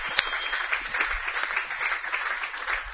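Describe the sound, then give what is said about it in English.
Audience applause at Carson's during a live Bearcat Coaches Show, applauding the hosts of the event, a steady crackle of many hands clapping at once, holding an even level for the full few seconds with no voices rising above it. “But we also want to let you know that we're very, very thankful we're at Carson's, and please give a round of a hand of applause to”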